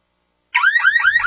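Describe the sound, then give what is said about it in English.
A loud electronic home security alarm starts abruptly after a short silence, its shrill tone sweeping up repeatedly in a rapid warbling pattern, with a faint low rumble underneath. “Your home alarm works after an intruder is inside your home, but real home security begins before intruders enter.”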